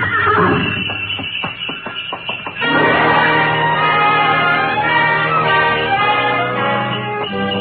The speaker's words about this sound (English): We glided out of the station, runners squeaking on snow, the soft pad of hooves, and the jangle of Mary Bell.